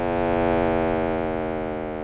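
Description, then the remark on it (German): A steady, synthetic low hum with a dense stack of harmonics and a faint pulsing texture, droning evenly and loudly for the whole stretch with no voices: a 100-second audio signal reproducing the echo of the Big Bang's primordial hum, made by a US physicist in the early 2000s. “reproduzierte der US-amerikanische Physiker John Cramer das Echo dieses Urbrummens in einem Tonsignal von 100 Sekunden Länge”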